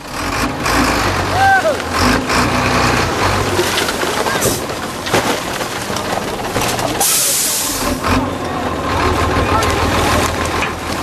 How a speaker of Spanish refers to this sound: Es el camión amarillo. El camión de la basura, que llega a rebosar de sacos, y los niños corriendo con sacos de arroz vacíos para rellenarlo de latas y de plásticos que van a revender